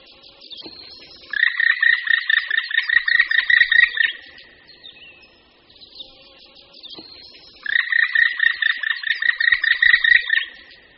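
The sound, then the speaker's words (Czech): Two loud runs of a black woodpecker's ringing kri kri kri call, the call it gives all year and when flying off a tree trunk, each a quick series of a dozen or so sharp, evenly spaced high notes lasting about three seconds, separated by a brief pause. “Nápadný je hlas, kterým se datli černí ozývají po celý rok a který vydávají při odletu z kmene stromů.”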